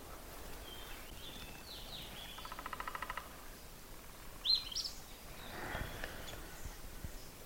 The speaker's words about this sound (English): Wonderful to wake up now, come outside, and hear things like robins singing and all kinds of other birds. Even if you don't know what the birds are, you know, it's like spring for sure when you hear that much singing. Robins are pretty active now.